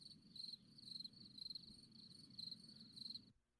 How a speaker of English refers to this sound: What the hell is that sound, man? Sounds like a goddamn cricket.